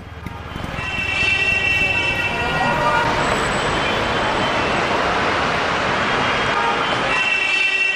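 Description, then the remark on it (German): Dense street traffic in a gigantic metropolis on both sides of the Nile, Africa's largest city, fills the scene with a steady roar of engines, horn-like tones sounding over it, and indistinct voices mixed into the busy, continuous din. “Die Altstadt erscheint wie eine Oase der Gemächlichkeit in der gigantischen Metropole, wo der dichte Verkehr fast nie zur Ruhe kommt.”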